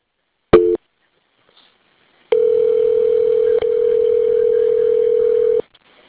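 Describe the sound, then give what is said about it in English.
A brief telephone blip, a pause, then a steady, continuous dial tone hums for about three seconds with one tiny hiccup before cutting off, after a phone call drops. No one speaks. “I'm sorry, I'm downstairs and keep on hanging up.”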